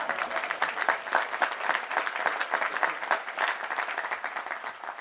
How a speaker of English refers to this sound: Here, go ahead and applaud, it's okay.